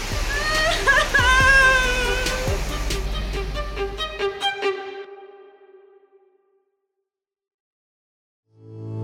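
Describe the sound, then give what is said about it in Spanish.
A loud, roaring surge of a black flash-flood head of water crashes in with a deep rumble, mixed with echoing, wail-like tones, then fades away into silence after a few seconds. “La joven y aterrada mamá vio por última vez a su bebé y la secuestradora, justo antes de que una fragorosa y negra cabeza de agua los cubriera por completo.”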